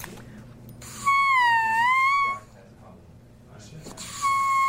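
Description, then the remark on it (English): A brand-new double reed, scraped the other day and not yet played, peeps twice at about C sharp: a loud, buzzy high tone lasting over a second that dips slightly in pitch and rises back, then a shorter matching squeak after a pause. “It's peeping at about a C sharp, and it feels really tough to play.”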